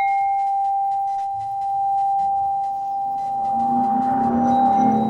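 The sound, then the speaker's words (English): A bell used for making music rings with a long, steady, sustaining tone, and a second, higher-pitched bell tone joins near the end over soft rustling background noise. “these bells that I use”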